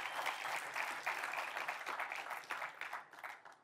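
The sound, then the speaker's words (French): A crowd applauds steadily for several seconds, a dense wash of many hands clapping at once, fairly loud and sustained without a clear rhythm, applauding God at a Christian gathering. “Et ceux qui l'ont vécu, est-ce qu'on peut applaudir notre Dieu qui se révèle encore aujourd'hui à nous?”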